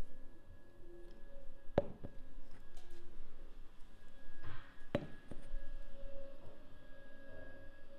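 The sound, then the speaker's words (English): A vacuum cleaner drones steadily on the other side of a wall, muffled and fairly faint, its hum holding constant while a couple of sharp knocks break through. “Somebody hoovering.”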